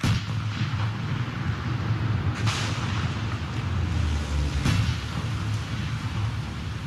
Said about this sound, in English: On the side of the Prius, in large type, was the word socialism. Greene fired, and the gun kicked back against her body. In the next shot, the car exploded, disappearing into orange flames.